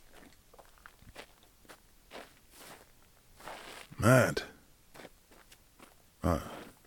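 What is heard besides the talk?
footsteps walking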